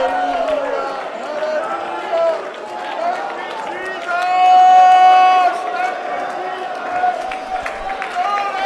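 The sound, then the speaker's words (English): An audience shouts and cries out in loud, overlapping praise to Him during a timed 30-second stretch of passionate praise, many voices blending into a sustained roar that swells to a peak midway, with scattered claps and cheers. “10 more seconds of passionate praise.”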